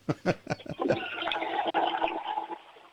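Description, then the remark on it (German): A toilet flushes, flushed by an 8-year-old girl in Carinthia, Austria: a few quick clunks and gurgles, then a steady rushing, swirling gush of water that fades out after a couple of seconds. “Oh, das war aber eine tolle Klospülung.”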